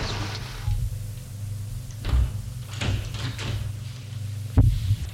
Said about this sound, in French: Le déclic de la porte. La porte s'ouvre.